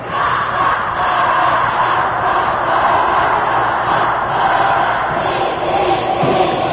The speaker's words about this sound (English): The sounds of Panther basketball.